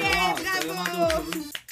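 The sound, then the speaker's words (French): Scattered clapping from a crowd, with loud voices calling out and cheering over it throughout; the claps come as sharp, irregular bursts beneath the shouting. “Si on est pour faire des vrais applaudissements, il faudrait qu'on applaudisse au moins les trois pour que vous ayez de l'air un petit peu de vrais applaudissements.”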